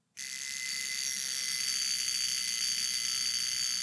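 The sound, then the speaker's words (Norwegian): A mechanical alarm watch, its alarm spring wound up, rings with a continuous, high-pitched metallic buzz that starts abruptly and holds steady and fairly loud, with no one talking. “Så nå har jeg trukket ut alarmen. Sånn, der, hørte du.”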